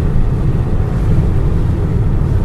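A steady, loud low rumble with a broad hissing roar above it, unbroken for the whole stretch: wind noise, not engine noise, buffeting a car as it drives along a road. No one speaks.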